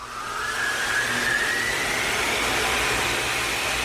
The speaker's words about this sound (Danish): Relativt kraftig støvsuger, ikke, Signe? Jo, noget som DC3-motor.